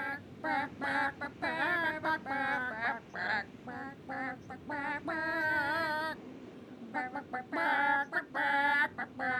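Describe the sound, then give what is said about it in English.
Several chickens cluck and squawk in a busy, overlapping chorus of short nasal calls, nearly continuous for about nine seconds, fairly loud with no talking. “Could you sing … by … for Robin Hobb, please? And there they go.”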